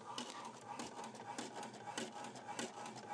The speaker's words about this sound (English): Okay, it's going to print something here. Okay, it's actually printing the other receipt now.